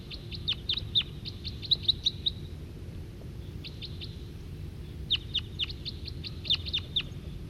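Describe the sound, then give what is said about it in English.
A wild male bird gives rapid series of high, sharp chirping calls in three bursts, with brief pauses between, over a steady low rumble of background noise. “And that's the wild male giving calls, and he's nearer now.”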